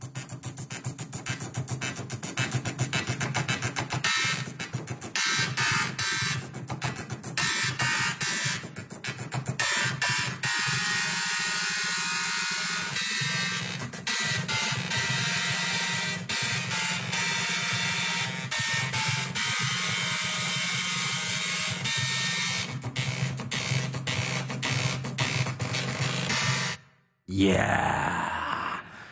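A tune played on two printers and four floppy drives: buzzing, grinding mechanical tones step through a melody, loud and continuous, with a brief drop-out near the end.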